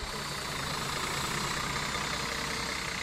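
A large tour bus engine idles steadily at Taroko Gorge in Taiwan, a coach of mainland Chinese tourists, a constant low rumble with a broad hiss over it, running unbroken with no voices present.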